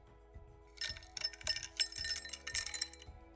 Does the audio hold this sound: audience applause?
no